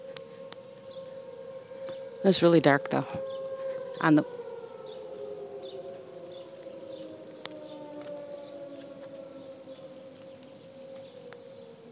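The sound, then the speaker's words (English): A wailing outdoor tornado warning siren drones steadily on a sunny day, its pitch slowly falling across the whole stretch, while a voice speaks briefly over it as the speaker walks down a residential block, and faint birds chirp in the background. “I didn't realize the sirens are so loud.”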